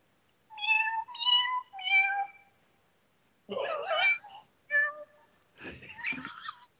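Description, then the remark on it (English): A recorded cat meows three times in quick succession, clear, followed after a pause by several raspy, breathy bursts that sound strained and wheezy. “How about Asthma Kitty?”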